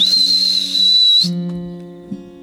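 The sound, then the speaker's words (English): A woman whistles outdoors on a road to call a dog: a single long, steady whistle held on one high pitch for about a second, then cut off abruptly, leaving a faint low hum behind it. “And so she went out onto the road and she whistled.”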